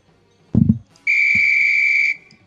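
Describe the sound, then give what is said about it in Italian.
A single sharp, steady whistle blast lasting about a second, loud, preceded by a brief low thump; it is the second whistle. “Ok, il secondo fischio mi consente di parlare”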